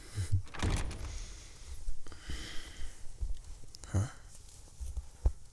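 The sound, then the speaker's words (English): A door swings shut with a few dull clunks and knocks, the latch catching near the end, amid quiet rustling and shuffling. “Close the door, will you?”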